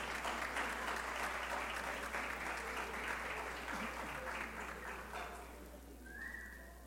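Steady, dense audience applause for the honorees of an evening ceremony, with many overlapping claps, sustained for several seconds before thinning out slightly at the end, where a faint brief tone rises above it.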